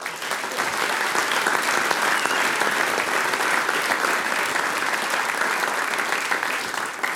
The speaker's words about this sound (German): Auch für dich noch einmal einen großen Applaus.